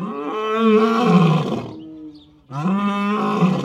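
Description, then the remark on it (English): Two deep, drawn-out roars from African lions calling to each other on a cold, sunny afternoon at Turpentine Creek Wildlife Refuge, each a loud, rumbling bellow that swells then fades, separated by a brief lull, with no talking. “African lions carol to each other this cold, sunny afternoon, claiming their stake on Turpentine Creek Wildlife Refuge.”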